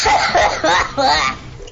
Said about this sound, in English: Can we start with a nice cough